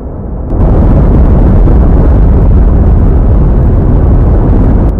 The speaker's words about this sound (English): The noise of thunder comes from vast electrical storms flashing in the planet's atmosphere.